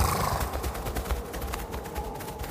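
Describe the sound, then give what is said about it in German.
A herd of yaks stampedes, scattering in panic as a wolf trots close past them, hooves pounding in a dense, continuous rumble of overlapping thuds, loud and echoing through a valley, with no voices. “Das Getrappel hallt im Tal wieder.”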